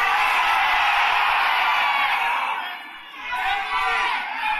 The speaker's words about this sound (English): On the count of three, everybody yell out your favorite dispensary or the one that you work for.